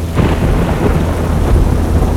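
A loud thunderstorm: deep rumbling thunder rolls continuously over a steady wash of heavy rain, with no voices present.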